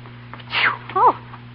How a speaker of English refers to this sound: God bless you. Thank you. It's the dust up here. Yes, it is dusty. Very dusty.